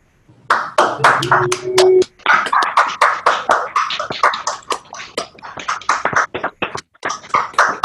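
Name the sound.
applause and clapping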